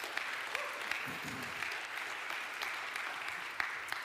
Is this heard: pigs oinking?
no